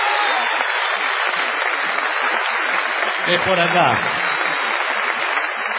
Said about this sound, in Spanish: Aquí estamos en Rosario, en el Teatro Broadway, donde ha llegado muchísima gente, la mayoría por error. Vamos a tributar una gigantesca ovación a